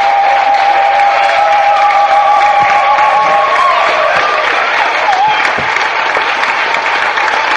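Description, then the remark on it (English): An audience claps for God in steady, sustained, dense applause, with a few cheers and tonal whoops rising above the noise early on, the clapping holding loud and even throughout. “Let's clap again for God.”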